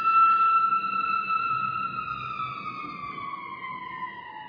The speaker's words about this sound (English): Wow, there's a lot of action going on out there tonight with the sirens, Saturday night, I guess.